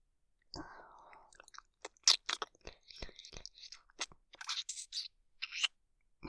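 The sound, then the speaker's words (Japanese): Soft, wet ASMR licking and mouth sounds, licking over the eyelids: a quick series of sticky clicks and smacks in an uneven rhythm, with a brief hissy, airy stretch at the start, all quiet and with no talking. “まぶたも舐めますよ。”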